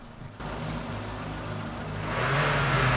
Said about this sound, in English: Everyone stares expectantly at the van, its engine idling.